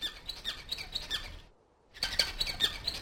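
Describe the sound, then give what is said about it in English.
A zebra finch gives a rapid string of short, nasal, squeaky chirps, breaking off for a half-second pause before another busy burst of calls. “There you are, zebra finch. You are the bird I've been looking for.”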